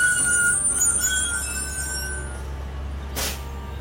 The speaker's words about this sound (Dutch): De bus zet ons een paar kilometer buiten het dorp langs de weg af, bij het Parkhotel.